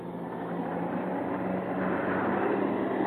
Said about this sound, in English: Planes.